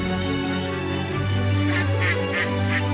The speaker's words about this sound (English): Can you hear the duck?